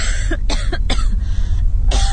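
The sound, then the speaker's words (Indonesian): A woman coughs repeatedly like a sick person, in a quick series of harsh bursts, then pauses briefly before one more cough, coming from the floor below in a house, over a low background rumble. “Hingga sayup-sayup ketika itu terdengar suara orang batuk-batuk.”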